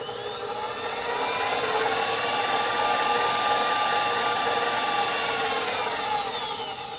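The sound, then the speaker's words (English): An electric mixer runs steadily, churning a puff-pastry-style dough of flour, cold cubed butter, salt, cold water and lemon juice, with a loud, constant motor whir and a slight grinding, rubbing texture throughout, with no talking. “Some salt, and then cold water and lemon juice, all to the mixer.”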